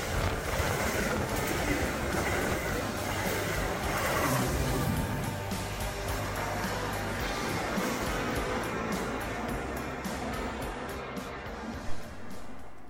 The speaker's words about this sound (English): Metra commuters, your attention please. The next Metra train approaching your station will be a Metra Express train and will not stop.